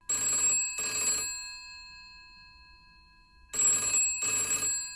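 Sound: telephone ringing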